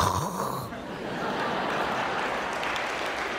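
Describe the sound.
Someone imitates snoring with a loud, raspy, drawn-out rumble that starts with a throaty voiced snort and continues as a steady, breathy roar for a few seconds.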